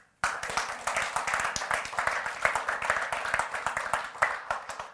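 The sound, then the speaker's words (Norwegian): A crowd at a Christian gathering breaks into steady applause, many hands clapping in a dense, continuous patter with small surges in loudness, lasting the whole stretch with no voices on top. “Ja, det en liten klapp.”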